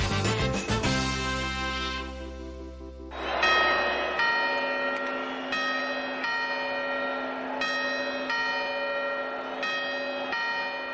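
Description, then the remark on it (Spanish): A clock's bells chime: a loud, deep, resonant strike rings out first, then a steady run of bright chimes follows at regular intervals, each note lingering into the next. No voices. “Esas campanadas muy similares que como las que están escuchando son las que tienen la culpa de algunos sinsabores en este tiempo de Navidad.”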